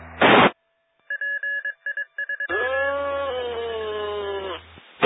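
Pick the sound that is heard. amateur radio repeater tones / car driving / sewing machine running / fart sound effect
amateur radio repeater tones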